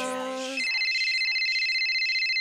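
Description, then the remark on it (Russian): A sung or spoken voice ends abruptly, then a bright, high electronic telephone ring sounds steadily and fairly loudly, continuing without pause to the end. “Ее звонок на телефон радует сердечко.”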